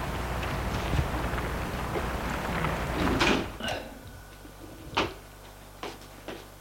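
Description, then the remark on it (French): An apartment building's entrance door lock clicks several times after an intercom call, in short, sharp bursts, an irregular series of hard metallic snaps after a few seconds of steady hiss, with no voices. “Il entend des clics de la porte.”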